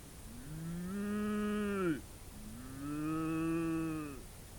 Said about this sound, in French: Pauvre Amélie, on l'a capturée, attrapée, et on l'emmène au zoo. Elle meugle dans la nuit.